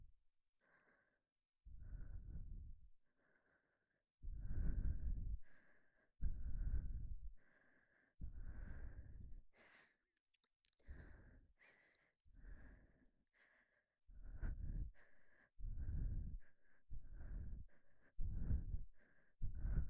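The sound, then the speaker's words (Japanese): Soft, airy breaths exhaled right against the microphone, repeating in a slow steady rhythm over a dozen times, each a breathy whoosh with a low rumble, and no talking. “ほら、私の吐息感じて、リラックスしてください。”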